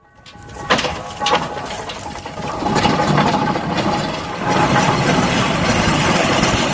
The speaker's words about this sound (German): So klingt ein Lokomobil, das mit Dampf angetrieben wird. Auf einem Festival in Schleswig-Holstein wird die historische Landtechnik im Einsatz gezeigt. In Ummendorf in Sachsen-Anhalt stehen noch zwei dieser gigantischen Maschinen.